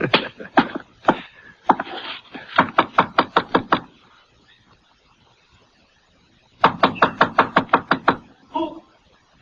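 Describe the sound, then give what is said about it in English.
Sharp knocking on a wooden door in several quick bursts of raps, a pause, then another rapid series of knocks, loud with a brief voice near the end. “Who is it?”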